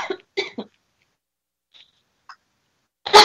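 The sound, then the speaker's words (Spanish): A quick run of three short coughs, then near silence with a couple of faint clicks, ending in a louder, harsher cough-like burst. “Ya ven, hasta tos le dio.”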